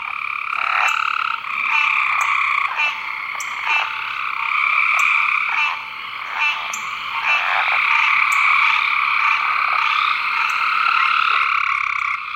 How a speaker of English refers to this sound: It's a swampy area close to about 200 miles south of Atlanta. You can hear gray tree frogs, chorus frogs, southern leopard frogs, American green tree frogs. Here's that.